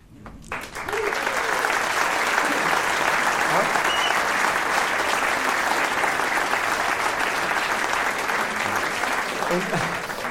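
Loud, sustained applause from an audience welcoming a guest the performer has brought along, a dense wash of clapping that starts abruptly and holds steady for about ten seconds without speech.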